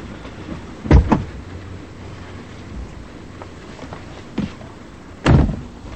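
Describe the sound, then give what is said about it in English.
The door of a black sedan on a dark side street clunks open with a quick double thud as a woman gets in, followed a few seconds later by a solid slam shut, set against a steady low outdoor rumble with no voices. “Inside, Bibi slouches at the wheel and glances up as she gets in.”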